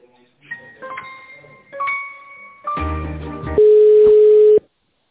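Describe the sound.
A single loud, steady mid-pitched telephone ringback tone sounds for about a second while waiting for the called person to pick up, after muffled voices and a brief harsh buzzy burst on the line.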